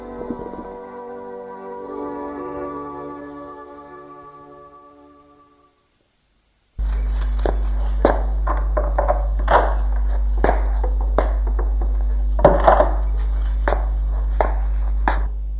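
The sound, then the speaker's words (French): Dishes and cutlery clink and clatter in a busy string of sharp knocks over a steady low hum, following a soft tonal passage that fades into a brief silence. “L'on entend de la musique, du bruit de vaisselle ou d'aboiement de chiens.”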